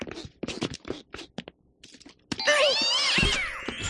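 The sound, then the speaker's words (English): A cat lets out a long, loud, wavering meow with a rising and falling pitch, preceded by a series of short scuffling and tapping noises. “I don't think I like cats.”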